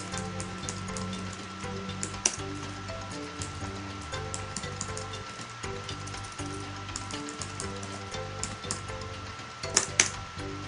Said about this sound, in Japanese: キーボードの音が結構入っちゃうんだよね。